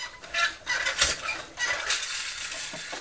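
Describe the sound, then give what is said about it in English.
A toy fire engine squeaks again and again in quick, uneven bursts, high-pitched and scratchy like rubbing plastic, with no one talking over it. “Can you hear the car squeaking?”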